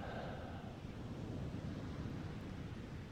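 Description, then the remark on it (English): A steady, rumbling wash of ocean surf fills the scene, broad and continuous with a windy low-end roar, no voices present. “and I can hear the sounds of your words blending with the sound of the ocean, with the touch of the sun.”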